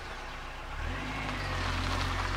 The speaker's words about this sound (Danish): Han har en lille bil, og den kører han rundt i. Han kører meget rundt.